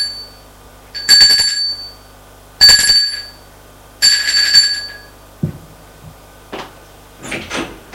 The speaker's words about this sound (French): Son bureau se trouve dans un vieil immeuble sans âge au troisième étage. Sonne à la porte.